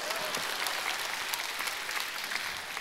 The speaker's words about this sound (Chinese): 给点掌声吧。